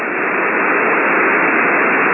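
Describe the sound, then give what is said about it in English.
Steady hiss of radio snow static fills the whole clip, a loud, even rush of noise with no voices, tones or breaks, like a receiver tuned between stations. “I have a low noise level, except for the snow static, low noise level, and he was maybe a couple less units below my lowest noise.”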